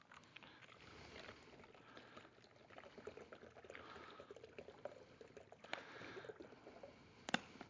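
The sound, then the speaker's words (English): Water pours steadily into a glass for several seconds, a continuous splashing gurgle that shifts slightly in pitch, ending with a faint clink. “And then you take about 4 parts water.”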